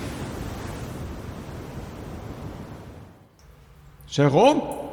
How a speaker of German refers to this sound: Boah, ist das windig.